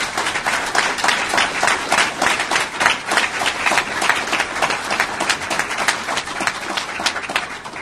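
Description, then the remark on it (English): A steady round of applause from a crowd for two candidates for sheriff at a debate, dense overlapping claps sustained at an even, fairly loud level for several seconds with no talking over it. “Let's give both of our candidates for sheriff a round of applause.”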